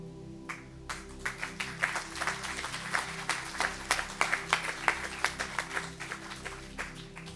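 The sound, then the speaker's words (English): An audience applauds, many hands clapping steadily for several seconds, sharp and fairly loud, with a low, constant hum underneath and no voices. “Let's give another round of applause, everybody.”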